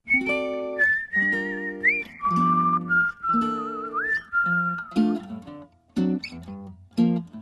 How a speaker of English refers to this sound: And we'll hear him singing and whistling on the song